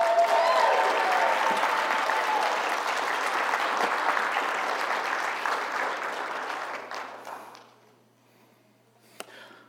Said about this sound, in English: Can you give them one more round of applause?